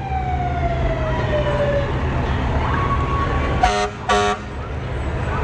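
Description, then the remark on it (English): A Nokomis volunteer fire department engine, number 2, rolls by in a 4th of July parade with its siren winding down in a falling wail, then sounds two loud, short horn blasts over a steady engine rumble. “Nokomis engine number 2.”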